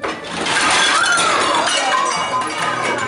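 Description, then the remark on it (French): The whole contents of a closet, including a fridge hat and a wrench, fall onto someone's head as the door is opened: a loud, continuous clatter with metallic clinks and ringing tones jangling over one another for about three seconds, without a pause and with no voices. “tout le contenu du placard lui tombe sur la tête.”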